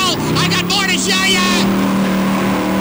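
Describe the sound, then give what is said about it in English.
A car engine roars loudly and steadily for a few seconds as a woman drives away from a parking lot, a rough throaty rumble with a rising, straining whine early on that settles into a constant drone. “I watched as she roared away, retching out the window.”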